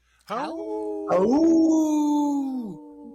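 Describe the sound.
A guest on Native Roots Radio imitates a wolf howl: two long sustained voiced howls, the first brief and falling, the second rising then holding steady for over a second before dropping off, fairly loud with no other talking.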